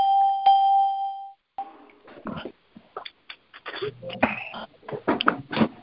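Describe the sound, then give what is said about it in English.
An electronic notification chime, sounding as a participant joins a call, rings out clearly, a bright sustained tone lasting just over a second, then gives way to a person talking. “All the chimes, yes.”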